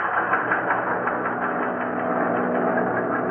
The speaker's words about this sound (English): On December 22nd, 1941, 2 weeks after Pearl Harbor, giant air transports roared over the mountains, wheeled down through the fog of Chongqing, and landed.